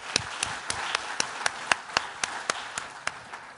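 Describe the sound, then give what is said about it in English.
Applause from a small audience, led by a dozen sharp, evenly spaced claps over a soft wash of background clapping, moderately loud, with no talking. “Thank you, sir. Round of applause.”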